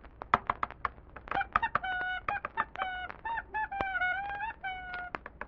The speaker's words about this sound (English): If I'm not mistaken, I think I hear Tickety Clack's footsteps now. Yes, here they come, upstairs.